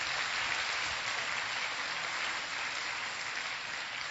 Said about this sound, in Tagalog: Sino dito gusto mapuno ang iyong bangka? Hallelujah. Pumalakpak na malakas sa Panginoon if you want your boat to be filled.